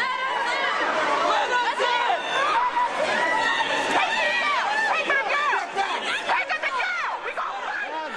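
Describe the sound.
A loud crowd of protesters, many voices shouting and talking over one another at once, forming a dense, continuous roar of overlapping yells that never drops away for the full stretch.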